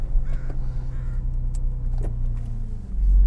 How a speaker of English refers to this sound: I'll just roll up my windows. I still have my sunroof open.